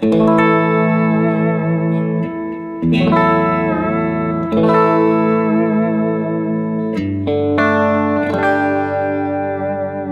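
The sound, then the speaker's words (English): Distorted electric guitar played through a Fender Blues Junior amp with delay, loud sustained chords struck about five times, each ringing out thick and gritty with echoing tails, no voices. “Okay, this was the distortion on, same setting as far as the delay goes”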